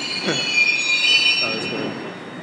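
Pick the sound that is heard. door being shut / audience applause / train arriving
train arriving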